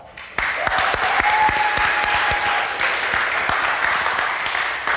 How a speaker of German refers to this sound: Vielen Dank an meinen Assistenten. Einen Applaus für meinen Assistenten, bitte.